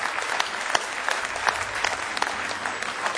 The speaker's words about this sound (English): Let's give Him a real, real good hand clap of praise tonight.